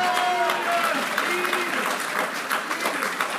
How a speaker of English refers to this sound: Somebody give him a clap of praise.